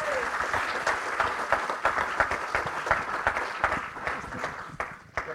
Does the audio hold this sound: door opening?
no